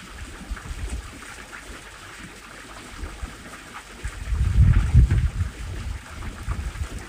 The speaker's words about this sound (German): Wenn du mit deinen Gedanken abdriftest, dann lass dich von dem Wind, den du hier während der Meditation in der Aufnahme hörst, immer wieder daran erinnern, zu deinem Atem zurückzukehren.